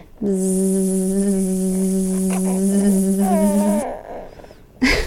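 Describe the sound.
A voice imitates a buzzing bee with one long, steady droning buzz held for about three and a half seconds, ending with a short breathy sound.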